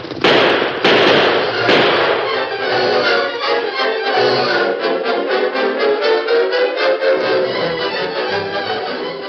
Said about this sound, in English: it's horses. Maybe some Apache Indians. No, maybe... no, I recognize them. It's Tonto and a Lone Ranger.